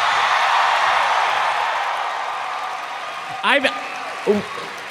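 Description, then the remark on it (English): Live audience applause for Griffin McElroy fills the opening seconds as a dense, steady patter that gradually fades as Travis McElroy shushes it, followed by a couple of brief voiced sounds near the end. “Travis did just shush Griffin's applause.”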